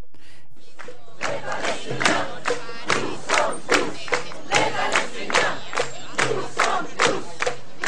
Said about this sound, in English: What you're listening to is a crowd of members of the Gaza Freedom March in Cairo. What they're chanting is, "We are all Palestinians."